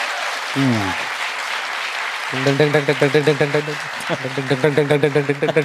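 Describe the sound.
A crowd applauds steadily throughout as a vote for a contestant, a dense wash of clapping. A brief vocal shout rises early on, then voices join in rhythmic, pulsing cheers over the applause for the second half.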